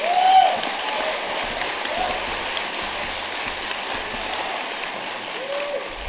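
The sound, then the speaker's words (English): An audience claps steadily for about six seconds, a dense, even wash of many hands that swells slightly at the start and then holds at a constant level. “People don't always clap when you say that.”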